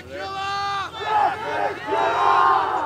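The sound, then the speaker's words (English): A crowd of demonstrators protesting a pipeline crossing under the water chants together in loud, sustained, pitched calls, with voices rising and falling in long held phrases that swell again after brief dips. “Demonstrators remain adamant that the pipeline not cross under the water, and they unite in prayers as well as with chants.”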